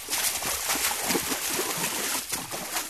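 Water from a fountain splashes continuously, a steady hissing spray with a gentle bubbling texture, even in loudness throughout, with no voices.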